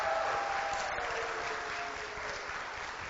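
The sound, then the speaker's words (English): An audience claps steadily for the students, a dense, sustained wash of applause holding at an even, loud level for the full few seconds without pause or spoken words. “Give our students another round of applause.”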